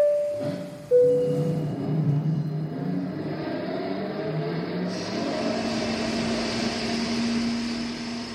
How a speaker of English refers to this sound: Now that sounds like a rather large engine, which makes me think, what does it take to power a fighter or indeed any plane?